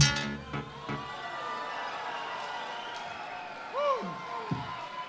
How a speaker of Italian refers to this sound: un grande applauso